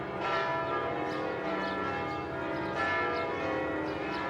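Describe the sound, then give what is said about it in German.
The funeral bells of the Madeleine church in Paris toll continuously on 10 January 1971, in a dense, overlapping peal, their rich harmonic ringing steady and loud throughout with no voices present. “Am 10. Januar 1971 läuten die Glocken der Pariser Kirche Madeleine. Es sind die Trauerglocken für Madame Coco Chanel.”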